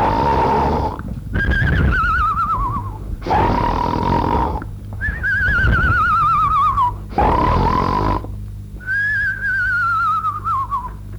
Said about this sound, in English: And sure enough, there on the bed lay Goldilocks, snuggled up and snoring soundly.